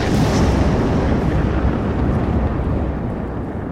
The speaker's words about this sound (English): All right, so my damage is 48 for a total of 18 points of damage as this wave of force just explodes out of me with a sound as loud as a thunderclap.